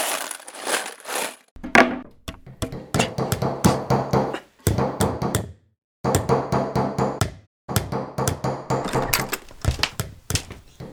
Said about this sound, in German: Was macht ihr denn für einen Krach? Ich versuche hier drüben zu schlafen und ihr nagelt die Türen zu. Wozu das denn?